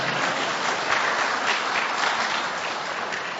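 An audience claps steadily for a man about to be baptized, a dense crackle of many hands that stays fairly loud and even for a few seconds, with no voices heard over it.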